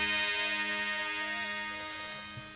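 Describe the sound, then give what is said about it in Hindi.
A clock ticks steadily at midnight over a sustained, ringing tonal hum, even in volume, fading slightly toward the end with no voices present. “अब मुझे घड़ी देखना चाहिए, रात के 12 बजे हैं।”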